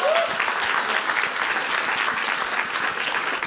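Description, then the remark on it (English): A crowd claps in a sustained round of applause for Dom, a young man being introduced, dense and steady throughout with no pauses, loud and filling the whole stretch without any speech over it. “So give Dom a round of applause.”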